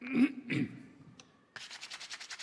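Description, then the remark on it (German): Sandpaper rubs briskly back and forth over a page torn from a Bible in a steady series of about ten quick, raspy strokes, fairly loud, after a couple of brief scraping handling sounds. “Ich reisse mal so eine Seite raus aus meiner Bibel, oder? Mit dem Schleifpapier.”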